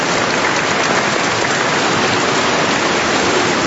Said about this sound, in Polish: Gorące brawa dla Bernadetki. Dziękujemy serdecznie.